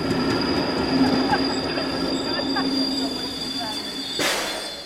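An S-Bahn commuter train rolls along the rails from Frankfurt to Offenbach, Germany, with a steady rumble, a thin high wheel squeal running throughout, and a brief louder rush of noise near the end.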